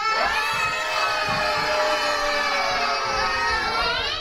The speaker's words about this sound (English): The townspeople ran through the streets in panic. No one in Barletta was ready for an army coming to destroy them. They had no generals, no captains. Why, they didn't even have any soldiers. Shouts and screams echoed off the buildings.